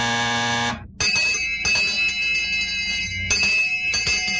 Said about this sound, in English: Well, you ran out of time, and those two bells mean that our game time for today is over.